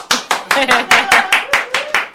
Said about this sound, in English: I have to join in the clapping because I'm loudest, nearest to a microphone.